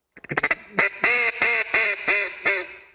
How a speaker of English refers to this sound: You notice your tongue comes up mm-hmm. and actually hits the roof of your mouth. So with a duck call, you're basically going 10, 10, 10.